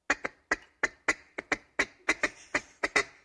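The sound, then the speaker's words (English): An imitated mallard feeding call: a quick, rhythmic run of about fourteen short, raspy clucks, often in pairs, steady in loudness and heard on its own without any talk. “Now, that's the mallard.”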